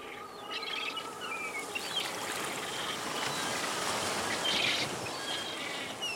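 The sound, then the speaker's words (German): Albatrosses calling at a colony at Tairoa Head, about a dozen sitting on their nests while others waddle through bushy grass; a scattering of short cries and chirps set against a steady rush of wind and surf, partly masked by the noise. “Ein Dutzend Tiere sitzt auf ihren Nestern, andere tapsen durch das buschige Gras.”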